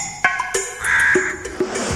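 A raven caws with one drawn-out, harsh, raspy call, fairly loud, set among a few sharp clicks and short croaking bursts. No one speaks.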